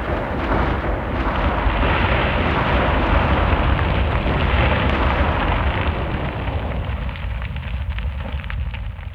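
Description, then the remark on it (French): A continuous, heavy roar of a volcanic eruption, dense low rumbling with crackling bursts, loud and sustained throughout, easing slightly toward the end. No voices. “Quand un volcan se réveille, il se produit parfois d'énormes explosions qui projettent des gaz, des cendres et des cailloux très haut dans le ciel.”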